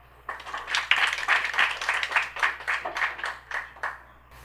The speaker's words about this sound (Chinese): 掌声欢迎。